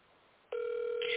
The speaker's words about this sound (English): somebody mute your phone. Whoever phone ringing, mute your phone.